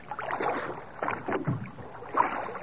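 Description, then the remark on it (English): Oars dip and pull through water in a steady rhythm, Peter's wooden rowboat creaking and splashing as it is rowed out a little from the shore, away from a crowd, with no voices heard. “Let's get this boat away from this mob.”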